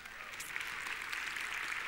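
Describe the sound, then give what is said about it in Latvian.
A crowd of people applauding together, giving applause for Jesus, a steady dense patter of many hands clapping at once, sustained and fairly even throughout with no talking over it. “Dosim aplausu Jēzum!”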